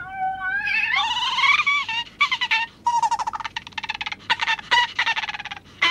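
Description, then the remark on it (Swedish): A cat, Jansson, yowls loudly, starting with a drawn-out rising wail, then breaking into a rapid series of choppy, stuttering cries, as the house mouse pulls its tail. “Husmusen brukar retas med katten.”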